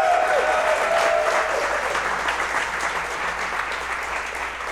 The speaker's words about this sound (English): You have to clap when it's an audio show. This does get published later as an audio format show. And then a round of applause.